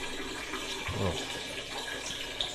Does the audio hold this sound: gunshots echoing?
no